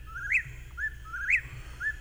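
A whippoorwill calls twice in a row, each phrase a rising whistled sweep ending in a sharp emphatic note, repeated rhythmically about once per second over a low background rumble.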